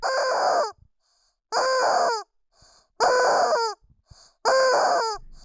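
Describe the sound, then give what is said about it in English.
A choir member squeezes a rubber chicken four times in a steady rhythm, each squeeze letting out a loud, strained squawk with brief quiet gaps between, and no voices. “And then one of the choir members squeezes their rubber chicken, and it pulls you out of the moment.”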